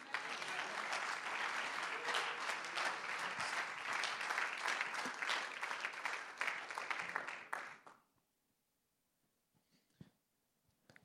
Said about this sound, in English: So as he comes up, why don't we give him an ear and why don't we give him a hand clap of love and appreciation? Amen.